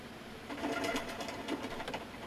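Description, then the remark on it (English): A bird's wings flap in a quick, rhythmic flutter of soft papery beats, steady for a couple of seconds, with no voices present. “I mean, the bird, it stops flapping like it's hovering.”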